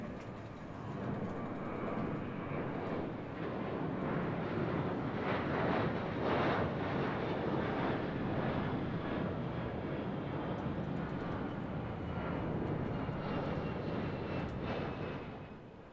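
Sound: airplane engine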